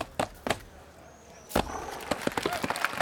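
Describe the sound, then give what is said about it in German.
A horse's hooves thud twice, then land with a heavy, splashy impact as it clears a water ditch on a show-jumping course, followed by a quick, scattered flurry of hoofbeats. “Bravo, mein Bibi-Pferdchen. Und jetzt noch der Dreifache.”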